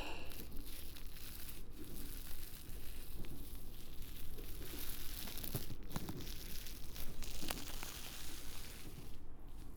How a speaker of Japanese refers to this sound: ラップを取って。